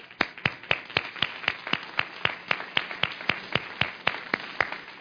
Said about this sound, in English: Psalm 47:1, clap your hands, O you people.